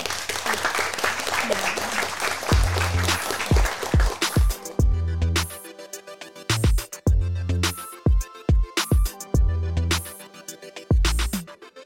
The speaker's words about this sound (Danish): Ja, det fortjener en klapsalve.